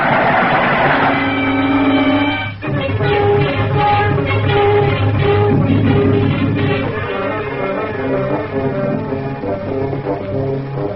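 A train thunders past in fog, loud and continuous for about eleven seconds, with a droning, horn-like tone layered over the clattering rumble. No one speaks.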